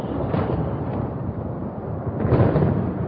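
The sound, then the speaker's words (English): A deep, continuous rumble of thunder from a thunderstorm over alpine meadows rolls for several seconds, loud and dense in the low end, swelling again toward the end. No voices are present. “They've seen many thunderstorms, yet each new one seems to terrify them.”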